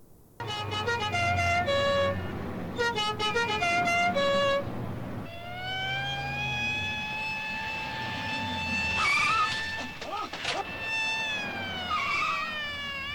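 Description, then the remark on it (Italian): Car horns honk insistently in busy traffic: a string of short, repeated blasts, then long overlapping held tones, all loud over a steady low rumble of engines. “vi inseriamo nel cuore del traffico, speriamo che nessuno di voi sia nel traffico in questo momento.”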